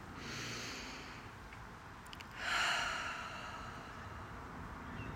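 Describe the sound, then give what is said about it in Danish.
A slow, deep breath drawn in through the nose, then a longer, louder breathy exhale slowly out through the mouth during a meditation breathing exercise, unaccompanied by any talking. “Tag dybe indåndinger gennem næsen og pust langsomt ud gennem munden.”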